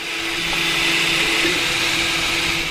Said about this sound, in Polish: To jest dokładnie drukarka 3D. No w tym momencie drukujemy uszczelki do samochodu. Materiałów jest coraz większa gama, od najzwyklejszych tworzyw przez kompozyty drewna, metalu, szklane, gumowe, tak jak w tym przypadku.